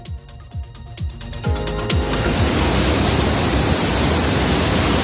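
rushing floodwater

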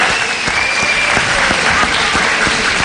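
applause

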